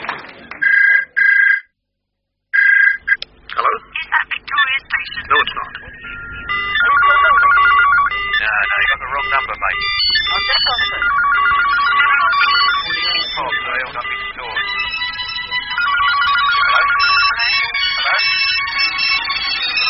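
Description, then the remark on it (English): A telephone rings in a few short, bright trilling bursts, then the ringing swells into a loud, continuous clamor of overlapping high-pitched electronic tones that carries on steadily to the end. “Alexander Graham Bell invented the telephone, which was fine until he invented the second one.”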